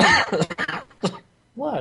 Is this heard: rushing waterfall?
no